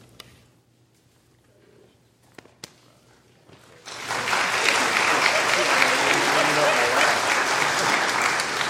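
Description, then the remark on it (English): A few scattered claps and faint rustling give way to a sudden burst of sustained audience applause for a speaker who went to class at Carolina, loud and dense, that continues steadily to the end. “They're clapping that you went to class at Carolina”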